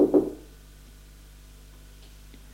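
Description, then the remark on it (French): Two quick, fairly solid knocks on a door at the very start, made by a servant at the door of an upstairs salon in a private mansion on Avenue Velasquez, followed by quiet with only a faint steady hum. “Le domestique frappe à la porte.”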